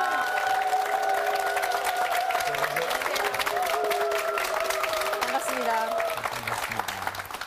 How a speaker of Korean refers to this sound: 박수로 환영해주세요.